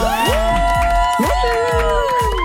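A studio audience at a game show cheers and claps loudly and steadily for a contestant being introduced, with whoops and high shouts rising above a dense wash of applause, alongside a bright, sustained musical tone.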